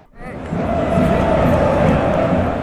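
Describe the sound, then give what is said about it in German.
A large football stadium crowd in Brazil roars continuously, sports fans from around the world cheering and whistling, a dense wall of voices swelling in after a brief quiet start and holding loud throughout, with scattered shouts mixed in. “Einen Monat lang jubelten und pfiffen Sportbegeisterte aus aller Welt in den brasilianischen Fußballstadien.”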